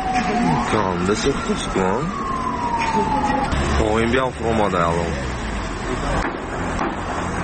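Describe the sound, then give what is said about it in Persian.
A fire engine siren wails, sweeping up and down repeatedly over a loud, noisy street scene at a fire in a two-storey beauty centre in Panjakent, Tajikistan, at 8 a.m. on December 6, with voices and crowd commotion throughout and a long falling tone partway through. “کاربران با ارسال نوار لحظه سوختار به رادیو آزادی گفتند که ماشین‌های آتش نشانی به محل سوختار دیر رسیدند و سری وقت آن را خاموش کردن نتوانستند.”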